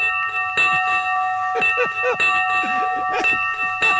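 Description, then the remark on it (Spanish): Bells ring continuously with bright, sustained metallic tones layered throughout, fairly loud, while people talk quietly underneath. “A ver, suenan las campanas.”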